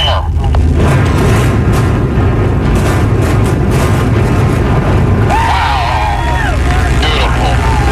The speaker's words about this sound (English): There are 5,500 holes drilled in that building right now. Most of them are filled with explosives. We will see a ring of lightning effect go around the top of the kingdom. Seattle says goodbye to the kingdom, and so do we.